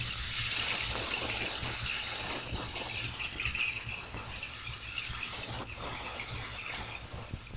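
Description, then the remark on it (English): Dense, steady underwater water noise picked up by a hydrophone right after diving: a continuous bright hiss with a low rumbling hum beneath, fairly loud and unbroken throughout, with no voices. “Water noise too high, but that's to be expected right after diving.”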